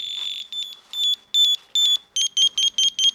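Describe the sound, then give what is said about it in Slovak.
A shrill electronic alarm tone from a motion-sensor bear deterrent pulses in a rapid series of loud, high-pitched bursts, each harmonically rich and piercing, speeding up toward the end with no voices. “Väčšina funguje vlastne na princípe nejakého pohybového snímača a potom na základe pohybu vydá nejaký intenzívny tón zblízka.”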